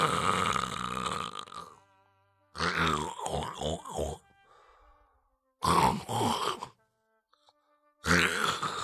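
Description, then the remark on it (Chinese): A voice imitates four tired cart drivers snoring as they sleep on a communal bed: four loud, rough, throaty bursts with short silent gaps between them. One burst rattles in quick pulses, and no words are spoken. “送走了老宋头，一个个的倒在这枕头上就鼾声大作，那呼噜声是此起彼伏啊。”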